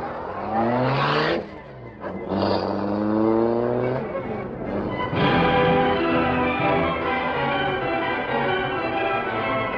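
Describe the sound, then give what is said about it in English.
The Black Beauty car's engine starts, revs and accelerates hard to follow another car, its loud whine climbing in pitch, dropping briefly at each gear change, then pulling away steadily. “All right, start the Black Beauty.”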